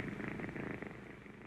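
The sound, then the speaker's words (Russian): A voice imitates a cat's purr, a steady rolling rumble with fast fluttering pulses that runs unbroken for about a second and a half, with no talking. “Попробуйте превратиться в кошку. Какая кошка? Выгните спинку, помурлычьте, умойтесь лапкой.”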